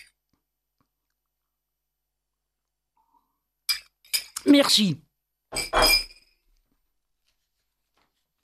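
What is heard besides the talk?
glass clinking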